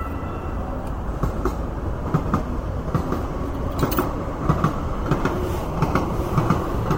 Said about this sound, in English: Hop and there's the train.